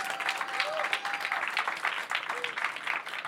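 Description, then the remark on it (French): Sustained audience applause at a masterclass, a dense steady patter of many hands clapping at an even loudness throughout, with a faint whistle-like tone drifting through it. “Attends, c'est après les applaudissements.”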